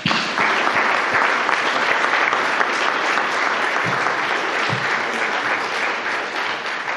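A room full of people claps steadily, a dense wash of overlapping handclaps that holds at a fairly loud, even level for several seconds without anyone speaking.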